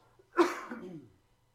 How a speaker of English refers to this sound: Some of y'all get nervous around me because I got this cough. I promise I'm better. I was sick last week. The cough just won't go away.